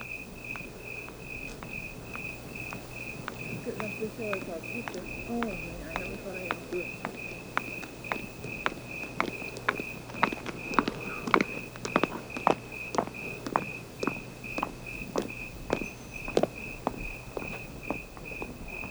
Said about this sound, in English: Listen to this section of tape made just at dawn. You'll hear the civilized sounds of a lady's high heels tapping their way down the walk as the eternal canyon crickets sound their quiet song to the morning sun.